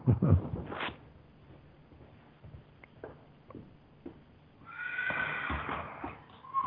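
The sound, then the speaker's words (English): A huge horse that has run out of its stables and out the front gate, in a city, neighs loudly, followed by scattered soft thuds and shuffling, then a second long, quavering whinny rising near the end. “Well, we have like this huge, beautiful horse, and it just ran out of the stables, right out the front gate, next door to play with the other horses.”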